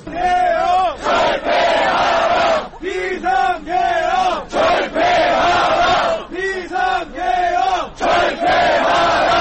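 A large crowd of protesters chants loud rhythmic slogans in unison outside the parliament and the presidential building in Seoul, South Korea, after martial law was declared, voices rising and falling in repeated bursts with short pauses between phrases, a sustained roar of many people shouting together.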